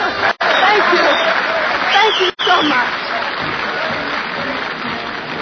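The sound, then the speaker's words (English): A large vaudeville theater audience applauds Annie Oakley's rifle act loudly and steadily, a dense wash of clapping with a few voices rising through it, broken by two brief dropouts near the start. “Audiences everywhere applauded the quiet yet self-assured young lady who displayed such amazing ability with a rifle.”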